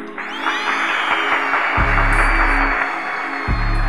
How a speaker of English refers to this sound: Let's give it a round of applause.